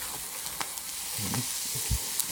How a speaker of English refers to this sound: Okay, and again, I'm stirring it a couple of times, really, in between broth additions. I probably should be stirring it maybe just a little bit more